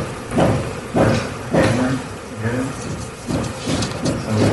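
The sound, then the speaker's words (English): Hammering from another room while a TV show is being recorded: a series of sharp, thudding blows at an uneven, roughly half-second rhythm, about seven in all, with a man's voice talking underneath them. “There was this audio, and it came out because somebody in the other room was hammering while he was recording the show.”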